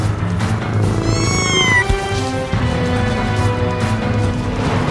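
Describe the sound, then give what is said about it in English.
Cats meow in a video game as the player tries to kill them, a rising, drawn-out cry standing out over a dense, steady bed of game music and noise, with the mewing sitting clearly in the foreground. “There's still more kitties that have to die.”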